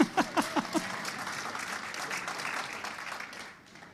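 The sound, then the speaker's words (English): A room full of people applauds the speaker, a few distinct claps at first swelling into steady, dense clapping that holds for several seconds before tapering off. “If you were Hebrew, you wouldn't be clapping for me.”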